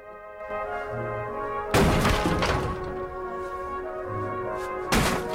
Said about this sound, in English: He picks up a sledgehammer and smashes a hole through the wall into one of the bedsits next door.